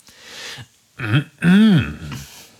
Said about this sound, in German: Er räusperte sich energisch. Keine Reaktion. Er wiederholte das energische Räuspern energischer.